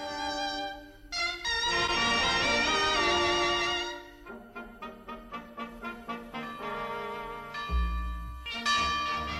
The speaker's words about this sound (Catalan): La darrera mirada de l'àngel és per les campanes de Sant Feliu, les del temple on hi reposa el cos de Sant Narcís.